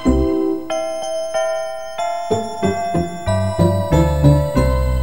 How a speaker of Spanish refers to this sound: Atención, atención, se preparan las campanas. Atención, atención, preparados, listos ya.